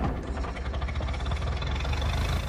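A car engine putters into life, then rumbles and putters steadily, a low, throbbing idle with a slightly uneven chugging rhythm, as the car drives away; no voices.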